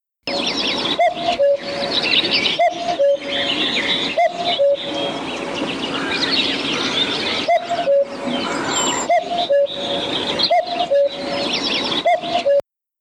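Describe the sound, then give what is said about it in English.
A cuckoo calls its two-note cuckoo over and over in a steady rhythm, clear, while other small birds chirp and trill busily in the background. “Maybe, a little like the Polaroid camera, cuckoos will after all enjoy a comeback in Britain, and their simple summer soundtrack will be current again.”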